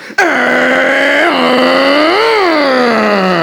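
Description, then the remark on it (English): A voice mimics an engine struggling to start, imitating a condom commercial's depiction of sex with a regular condom: one loud, sustained low droning hum lasting about three seconds, its pitch sagging with a small hiccup midway, then briefly swelling before sinking again. “Supposed to be an engine, can't really get started, not very good.”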